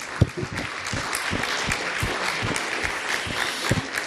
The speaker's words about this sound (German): Halleluja. Ja, lasst uns mal Jesus einen Applaus geben.